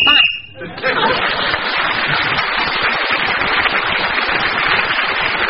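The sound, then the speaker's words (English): A short, shrill whistle blast marks the end of the round, then is swallowed by steady, loud audience applause and laughter that continues to the end. “Wendy Richard, who tried to speak as a whistle when, gained that extra point for doing so, and has increased her lead at the end of the round.”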